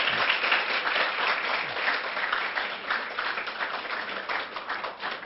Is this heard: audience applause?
yes